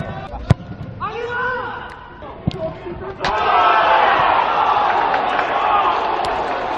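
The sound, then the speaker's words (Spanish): Players and coaches shout across an empty football stadium with no spectators during a match won 2-1 by la Real, voices ringing out with echo, punctuated by sharp ball kicks, then a louder burst of overlapping yells and calls swelling midway through. “No había público por precaución y se podía escuchar perfectamente los gritos de los jugadores, los entrenadores.”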